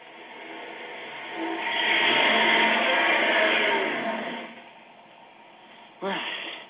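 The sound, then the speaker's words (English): A car engine rumbles as the vehicle slowly backs into a garage, its noise swelling for a few seconds before settling to a low idle, then a short sharp squeak near the end. “Back it in, Smitty, before somebody sees us.”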